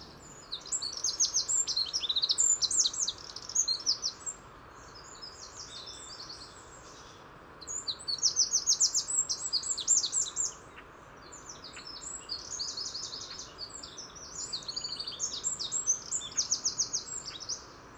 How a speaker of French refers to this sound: Et en ce début de matinée, beaucoup de voitures emmènent les Parisiens au travail. Et on entend par la rumeur. Mais, et ça c'est très étonnant, les oiseaux semblent s'être parfaitement adaptés. Dont ces troglodytes mignons.